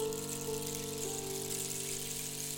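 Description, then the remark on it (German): A babbling brook flows steadily, its continuous rushing, gurgling water holding an even level throughout with no voices. “Und sie ging tief, tief in den Garten hinein, da, wo der königliche Garten in die Wildnis übergeht, und setzte sich an einen Bach und weinte bitterlich.”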